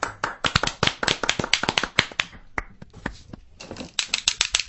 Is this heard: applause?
yes